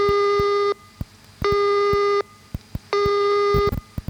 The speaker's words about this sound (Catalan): la ratlla, el so llarg, deurà ser tres cops més llarga. Això és bàsic, tres cops més llarg que el punt. Tres punts, tres cops més llarga que el punt. Podem sentir... Escoltem-la, per exemple. La ratlla.